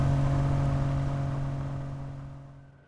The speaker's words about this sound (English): The knowledge that it was nearly time filled him to bursting, but mindful of the still puzzled Baron beside him, he allowed himself only the expression of putting his foot down on the gas and coaxing more speed from the wag's protesting engine.